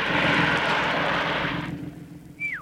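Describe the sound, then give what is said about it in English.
A car engine runs with a loud, steady rumble and rushing roar, then drops away abruptly as the car is stopped with the handbrake after something hits the windscreen, leaving a quieter idle and a brief high squeal sliding downward near the end. “Switch the engine off.”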